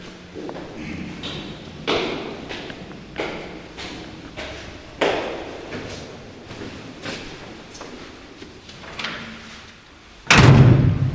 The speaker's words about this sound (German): Sie können einfach die Tür aufklinken und dann wieder richtig zuziehen. Mache ich.